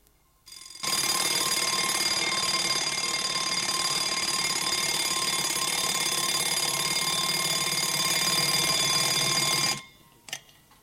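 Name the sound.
alarm clock ringing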